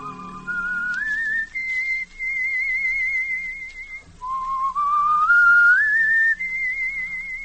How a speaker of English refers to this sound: I can still hear him sometimes. I can still hear him whistling that tune. It's only in my mind, I know.